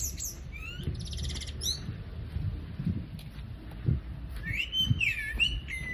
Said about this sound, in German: Der Autolärm wird leiser. Und dafür hört man immer mehr Vögel pfeifen. Es ist fast ein bisschen idyllisch.